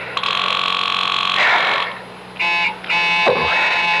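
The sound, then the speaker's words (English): A telephone rings repeatedly with no answer, its loud electronic trill sounding in bursts separated by short pauses. No voices are heard. “Come on. Answer the phone.”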